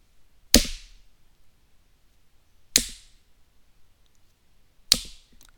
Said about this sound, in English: You start by spanking me slow. Slow and deliberate slaps.